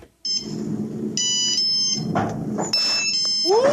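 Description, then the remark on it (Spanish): A Nokia phone plays a custom ringtone created on it by a radio listener: bright, high electronic beeps in short melodic phrases over a steady low rumble of background noise, ending with quick rising chirps. “Perdón, Pacho, es un ringtone.”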